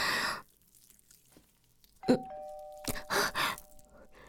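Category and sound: household object, doorbell ringing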